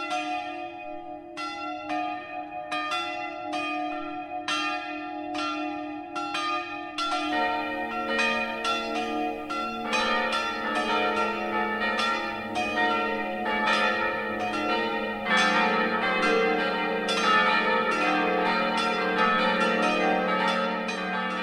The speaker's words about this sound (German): Es ist 12 Uhr. Das Mittagsläuten kommt aus dem Nürnberger Stadtteil St. Leonhard Schweinau.